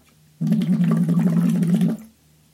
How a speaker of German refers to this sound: Und zwar einfach auf der Melodie. Ich blubbere jetzt die Melodie in den Strohhalm rein. Und ich gebe einmal den Anfangston.